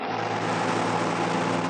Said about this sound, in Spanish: Calimán y el pequeño Solín llegan en el auto alquilado oportunamente por el hombre increíble. Con que aquí es. Apagaré el motor y los faros.